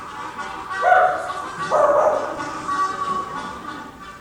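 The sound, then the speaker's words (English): Dogs on a front porch barking as they start chasing the Harry Man, with two drawn-out yelping barks about a second apart, moderately loud over a steady background hiss, then fading into quieter low rustling. “By this time, the dogs were on the front porch, and they started chasing Wiley.”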